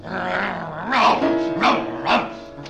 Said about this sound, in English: With a snarl that was part bark and more scream, he launched himself once more at the man with the club.